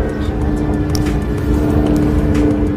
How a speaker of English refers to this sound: Not the time, helicopter. So, right now, Cynthia Erivo's getting upset, and Ariana Grande is looking at the sky because there is a helicopter going over her, and she is, thank you. And she is telling the helicopter to go away.